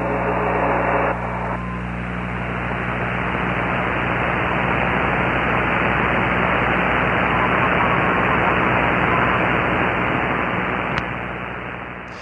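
Steady, dense radio static from the Dead Cat Radio broadcast hisses for about twelve seconds over a low, constant electrical hum, with a few faint tones in the first second and no clear voices coming through.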